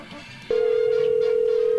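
A steady, loud telephone tone cuts in after a quiet moment and holds unbroken, like a line sounding before a call connects.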